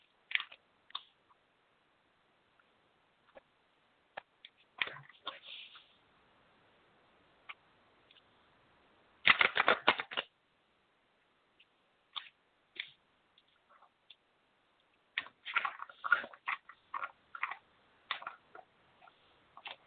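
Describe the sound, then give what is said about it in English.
Shuffling a deck of cards with scattered soft clicks and flicks, a dense riffling burst near the middle, then another busy stretch of quick snaps. Quiet and without any talking. “One second while I shuffle.”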